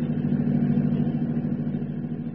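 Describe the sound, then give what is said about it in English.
A car engine hums steadily throughout, a continuous low drone at a constant pitch with no revving, fairly loud with no voices. “That car is still back there.”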